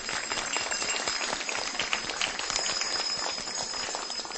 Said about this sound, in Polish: Serdecznie Was, kochane, witamy. Brawa dla nich.